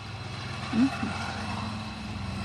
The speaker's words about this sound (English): That's a loud truck.